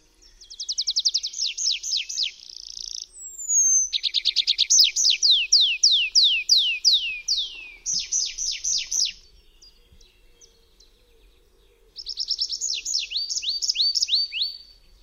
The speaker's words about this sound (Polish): W zwrotce długiej, wydawanej przez ptaki w locie tokowym, pierwsza część składa się z serii identycznych sylab wydawanych w powolnym tempie. W drugiej części tempo przyspiesza, a tonacja następujących po sobie fraz skacze w górę i w dół.